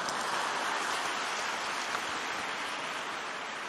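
An audience applauds steadily for a few seconds, many hands clapping together in a dense, even wash of sound with no voices over it.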